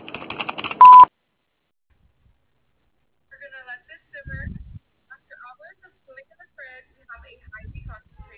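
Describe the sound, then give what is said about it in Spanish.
A single short, loud electronic beep of a voicemail prompt sounds right after a brief burst of recorded voice; a quiet pause follows before someone begins speaking. “Después del tono, ¿Aló? tu mensaje.”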